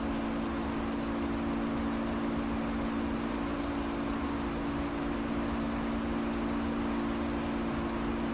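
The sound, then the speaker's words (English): An aircraft engine, being pushed hard at about 12,000 to 14,000 feet altitude, drones steadily and loudly, a constant low hum with a strong steady tone over broad roaring noise, unbroken for the whole stretch with no voices. “I'm basically stressing the heck out of this engine, but...”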